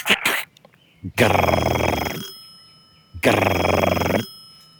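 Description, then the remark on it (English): An old-fashioned telephone bell rings loudly, two long jangling rings separated by a short pause, with a brief clatter just before the first ring; a dialed phone number ringing on and on. “And it had one of those rings that doesn't sound like a normal phone ring, like it almost sounds like you're calling someone from 40 years ago.”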